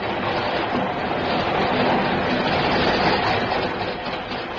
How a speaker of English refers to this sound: The train itself, you see. Old trains fascinate me, especially steam trains.